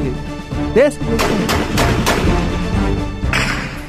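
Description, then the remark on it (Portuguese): A burst of gunshots, roughly five sharp, loud cracks fired in quick, uneven succession over a continuous noisy background. “Ai, meu Deus, tá dando tiro.”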